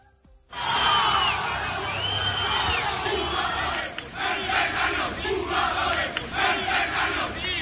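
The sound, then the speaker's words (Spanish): A loud crowd of Valencia football supporters shouts and chants at the Valencia players inside Mestalla stadium and on the way out, a dense roar of many voices that starts abruptly and holds steady throughout, with rising and falling surges of yelling. “Eso es lo que gritaban ayer seguidores del Valencia dentro de Mestalla y a la salida del estadio, cuando abandonaban los futbolistas del equipo Che las inmediaciones del campo.”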